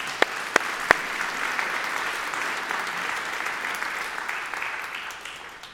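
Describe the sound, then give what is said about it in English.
A church audience applauds for God, a dense wash of clapping from a large group that holds level for several seconds, with a few sharp, louder claps near the start before it gradually thins out. “So let's give God a round of applause.”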